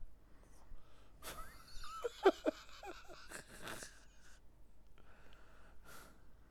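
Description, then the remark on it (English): A person mimics snoring: a few rough, rattling snorts and raspy breaths in a short cluster, followed by a softer exhale and a brief breathy huff. “I shall give you the old snore.”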